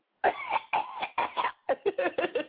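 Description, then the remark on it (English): Someone performs a staged fit of coughing: several drawn-out coughs followed by a quicker run of short, clipped ones, about ten in all, with no speech. “Yo, that was the cutest cough I could do in my life.”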